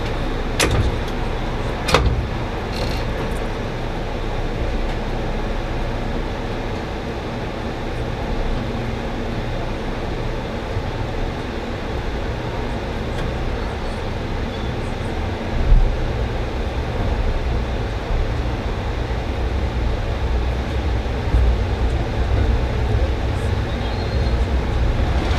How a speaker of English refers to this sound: Business class section of train 64, the Maple Leaf. This is all reserved section and is the premium class seating on this train.